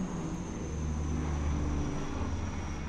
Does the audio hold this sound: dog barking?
no